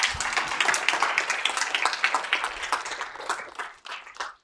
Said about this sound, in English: they didn't give me that applause. They gave that guy applause. They gave you applause.